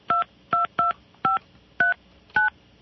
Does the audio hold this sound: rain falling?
no